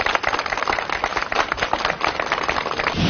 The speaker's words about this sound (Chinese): 今天有请党史专家邵维正老师带着我们一起走进历史的现场，去重温发生在这里的历史。掌声有请邵老师。